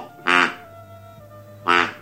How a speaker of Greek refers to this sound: Η πάπια φτερουγίζει.